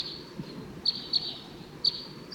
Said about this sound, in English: Sounds like those wild birds are coming back.